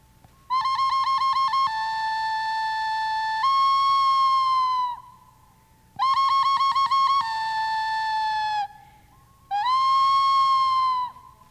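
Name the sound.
ocarina playing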